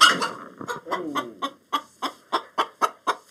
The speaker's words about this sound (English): The chicken is so big, 9 pounds, the size of a small consumer turkey, that she has to pull the camera back.